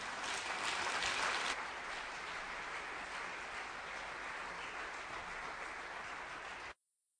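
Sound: applause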